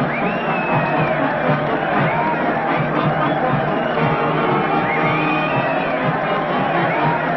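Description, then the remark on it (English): A large waving crowd from all parts of Hawaii, gathered at the end of a bridge from a dock to greet returning castaways, cheers and shouts continuously, a dense wash of many voices with occasional higher whoops rising above the steady, loud roar throughout. “And look at that mob waving and cheering.”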